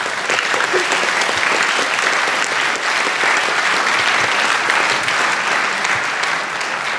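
Steady, dense applause from an audience, many hands clapping at once in a continuous loud wash that holds evenly for about seven seconds without a break.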